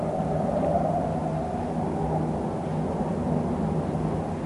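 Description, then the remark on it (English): A continuous, heavy roar of aeroplanes passing overhead, a deep rumbling drone with faint steady humming tones running through it, holding at an even loudness throughout with no voices. “I'm afraid we'll have to bear up with this noise of the aeroplanes for a while.”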